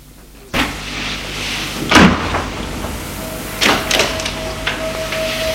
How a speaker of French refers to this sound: La porte du salon s'est ouverte. C'est sa mère.